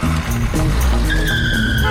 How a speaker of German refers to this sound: Das sind noch Zeiten gewesen. So sind wir früher Auto gefahren.